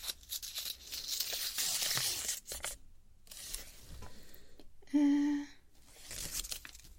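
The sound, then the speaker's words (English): Paper tearing off a paper roller: several raspy ripping bursts with short pauses between, and a brief squeaky tone near the end. No one speaks. “Paper roller.”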